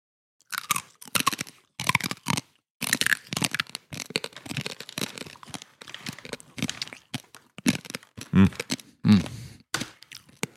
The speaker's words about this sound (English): I thought that was a really good crunch. Me too.